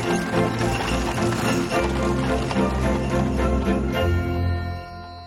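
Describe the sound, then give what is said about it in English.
Hooves of two horses clip-clop in a steady walking rhythm as they pull a carriage along a road lined with twinkling Christmas lights, mixed under full, sustained music with a faint tinkling jingle. “Two horses pull the carriage forward.”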